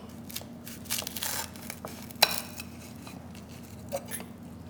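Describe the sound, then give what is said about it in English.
A knife crunches through the brittle, crackly brulee sugar crust of a pecan and pumpkin pie, with bursts of dry crackling, one sharp snap around the middle, and a softer click near the end, over a low steady hum. “The sound of that crust is just outlandish.”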